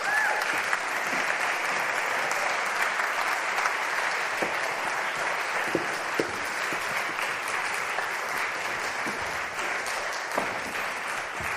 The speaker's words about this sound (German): Und ich möchte jetzt, dass sie diesen Kindern einen ganz, ganz dicken Applaus gibt.